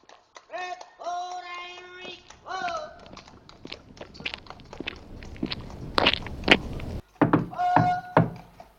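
A few heavy knocks on a door thud out, mixed with brief high-pitched vocal sounds before and after, with scattered bumps and shuffling in between.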